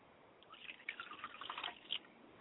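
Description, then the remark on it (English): Water is poured out onto the ground as a ritual libation, pattering in a soft, uneven splash and drip lasting under two seconds. It's quiet, with no voices. “And I pour water to the ground, and I say Wotutu.”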